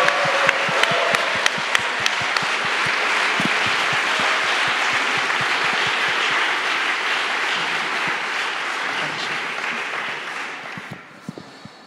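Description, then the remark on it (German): An audience stands and breaks into sustained, dense applause for God, many hands clapping at a steady loud level for about ten seconds before it thins and fades at the end. “Lasst uns aufstehen und Gott einen Applaus geben.”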